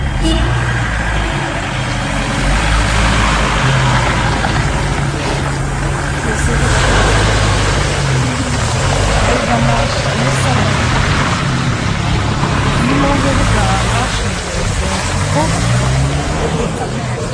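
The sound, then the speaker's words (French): A border police car's engine rumbles loudly and steadily for the whole stretch, with a constant low drone under broad street noise and some indistinct voices. “Ah, là, c'est la voiture de police.”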